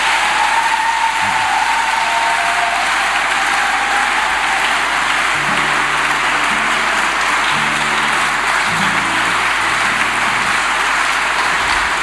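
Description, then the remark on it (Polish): A crowd claps steadily for about twelve seconds for the priest who wrote a song's lyrics and music, a dense, even wash of applause that holds at a strong, constant level from start to finish with no speech over it. “A brawo gdzie jest dla niego?”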